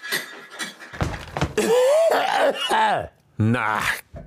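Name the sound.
coughing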